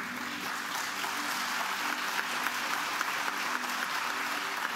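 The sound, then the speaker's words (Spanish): A crowd claps steadily in sustained applause welcoming five young people who have been baptized, a dense, even wash of many hands with occasional sharper claps standing out, moderately loud throughout with no talking. “y quiero que, a medida que los nombre, se pongan de pie y vamos a darle una bienvenida en la forma de un aplauso.”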